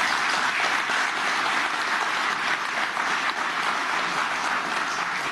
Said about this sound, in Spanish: Un aplauso para ustedes, señores.